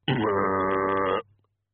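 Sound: pig grunting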